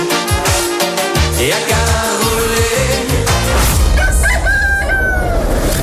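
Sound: rooster crowing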